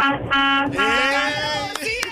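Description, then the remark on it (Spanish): A truck horn blares loud in one long, sustained, brassy blast that runs almost the whole time, with a brief dip near the start and busy background noise underneath. “Mira la bocina. Ese camión suena grande, dale, tócame la bocina.”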